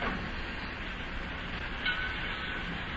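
Steady rumbling train noise fills a large, echoing, crowded railroad terminal in Cincinnati, a broad continuous wash with a faint high squeal near the end, heard from inside the station.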